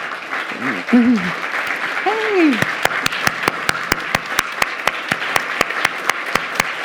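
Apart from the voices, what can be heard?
audience applause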